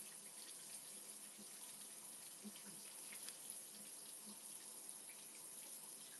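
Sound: shower water running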